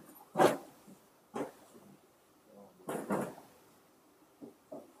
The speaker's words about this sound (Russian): Можете, да, ставить стулья.